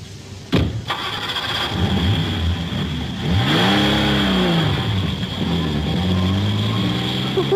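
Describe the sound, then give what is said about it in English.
A car engine cranks with a sharp burst, catches, then revs loudly, its pitch sweeping up and down as it pulls away, with a steady high whine running underneath. “We can do you for stealing the car, driving without a license, dangerous driving the lot.”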